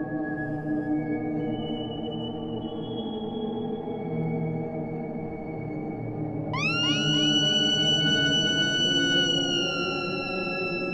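A droning, dense song holds a few thin sustained tones, then around the midpoint several shrill screams burst in together, sliding upward and holding as layered, piercing wails over the rumbling backing.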